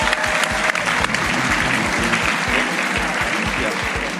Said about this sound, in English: I think we should thank our fantastic audience for being a fantastic audience. We thank love you. I'll give you a big round of applause for being a fantastic audience.